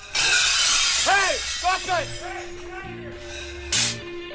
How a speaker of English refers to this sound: You don't need any of this silver, this china. Breaking all the plates.